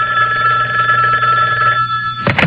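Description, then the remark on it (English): A telephone rings steadily on a wiretapped call made from the phone outside the chapel in the Vancouver Remand Center, its bright electronic tone sustained for a couple of seconds before cutting off into a short burst of line noise. “He made a wiretap call ostensibly from the phone outside the chapel in the Vancouver Remand Center.”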